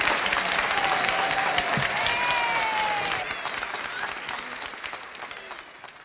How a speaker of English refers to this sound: We'll give you a round of applause.